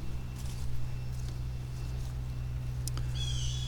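Birds call agitatedly over a steady low outdoor rumble, with a few faint chirps early on and a sharper, brief burst of high calls near the end.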